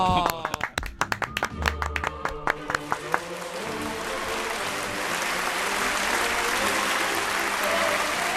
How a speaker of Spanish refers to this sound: ¡Qué bueno! ¡Pum, pum, pum! ¡Un aplauso! ¡Bravo!